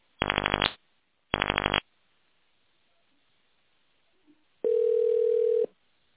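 Telephone touch-tone dialing of an employee's internal extension number in tone mode: two short, buzzy electronic tones in quick succession, a pause, then one longer steady mid-pitched beep. No voices.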